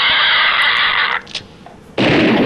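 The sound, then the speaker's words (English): Two loud gunfire blasts, a two-gun salute sound effect: a long roaring boom cut off abruptly, a brief near-quiet gap, then a second harsh blast. No voices. “Got a two-gun pig salute.”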